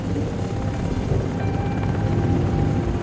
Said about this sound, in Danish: Lydkulissen er jo konstant larm fra helikopter, der kommer og går.